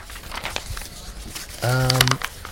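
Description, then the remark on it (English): A sheet of paper is crumpled to be thrown away, a run of dry crinkly crackles for about a second and a half, then a brief sustained voiced sound from someone near the end. “You know, this paper. You know what? None of us need to read this one. I'm gonna throw this one away.”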